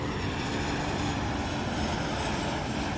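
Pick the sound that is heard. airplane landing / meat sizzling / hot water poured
airplane landing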